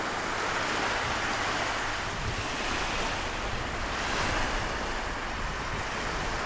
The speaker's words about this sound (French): J'aime bien le bruit de le vent et la mer.